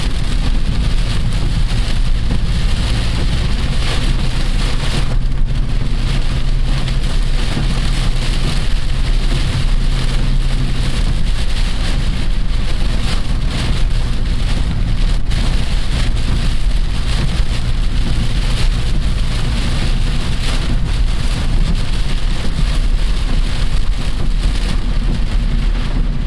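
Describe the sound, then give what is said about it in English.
Very heavy rain pours down in a dense, unbroken roar for the whole stretch, loud, heard from a car stopped at a stoplight, with a low steady rumble like an idling engine beneath it. “Still very heavy rain. I'm sure you can hear that.”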